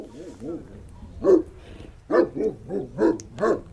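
A dog barks repeatedly, a quick run of five or six loud, sharp barks in a steady rhythm following a softer, whining start.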